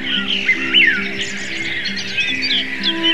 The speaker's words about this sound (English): Even as the light quickened, the birds started chirping.